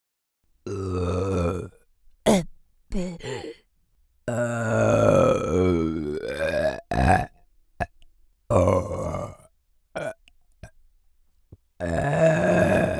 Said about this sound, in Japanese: やべ、マジゲップこきそう。出る出る。